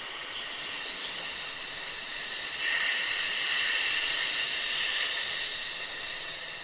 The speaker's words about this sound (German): Also, einatmen, tief in den Bauch. Der Bauch fällt raus durch die Nase. Und auf F ausatmen.